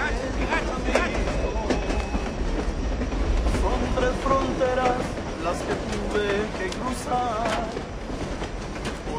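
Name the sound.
train riding on rails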